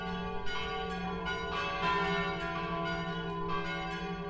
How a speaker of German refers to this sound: Selbstverständlich sind auch die Glocken der Regener Stadtpfarrkirche St. Michael schon im BR archiviert.